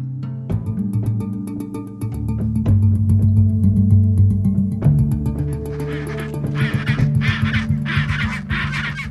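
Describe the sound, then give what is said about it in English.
A dense chorus of penguins calling from a colony in Antarctica, harsh honking and braying voices overlapping continuously, loud, with no one speaking. “Over the decades that you've been coming here counting all these birds, do you have any sense of a cumulative number, how many penguins you've actually counted?”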